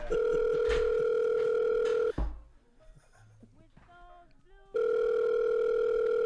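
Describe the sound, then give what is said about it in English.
A loud, steady telephone dial tone hums for about two seconds, cuts out briefly while faint voice-like sounds come through, then resumes just as strongly to the end. “will you pick up the phone, please?”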